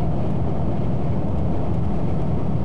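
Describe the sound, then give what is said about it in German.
A steady, heavy low rumble of a bus engine running continuously, heard from inside the moving bus carrying children, with a constant droning hum and no voices. “Sie sitzen zusammen im Bus.”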